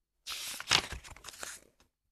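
Pages of the book 'Doors' being turned back to the beginning: a dry, papery rustle and crinkle lasting about a second and a half, with a sharper crackle partway through, heard alone without any talking.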